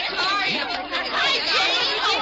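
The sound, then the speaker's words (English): A dense, excited crowd of teenage fans, mostly girls, chatters and shouts all at once as the doors open and they scramble for the ticket booth. Many overlapping voices form a steady, loud babble with sharp rising exclamations cutting through. “When they open those doors out there, there's a mad scramble for the ticket booth. Usher says it's a real stampede.”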